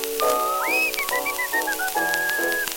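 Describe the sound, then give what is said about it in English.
A bright, clear whistled melody slides up and then steps through short notes, carried loudly over a steady instrumental backing with no voices. “Got into a church and whistling did begin.”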